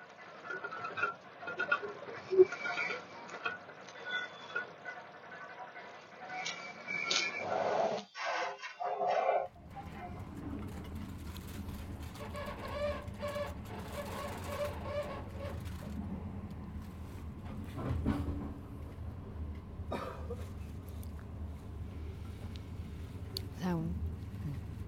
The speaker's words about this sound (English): I don't know if you can hear, if I've managed to capture the sounds of the train in the background so well